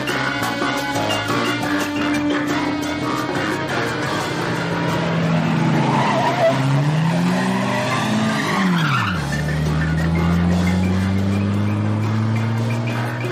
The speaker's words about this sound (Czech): Policejní vůz 08 právě projel kolem stanoviště číslo 6. Policejní vůz číslo 08 právě projel kolem stanoviště 7.